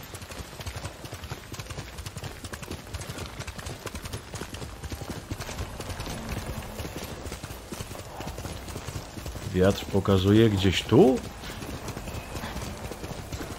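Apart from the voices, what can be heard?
horse hooves clip-clopping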